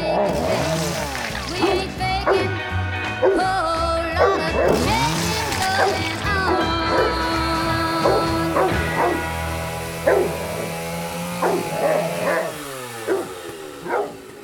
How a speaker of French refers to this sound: Le dernier son, celui d'un aboiement. Oui, j'ai oublié de vous dire qu'il a fait. Je me suis permis de modifier le scénario afin d'offrir un rôle à mes Doberman.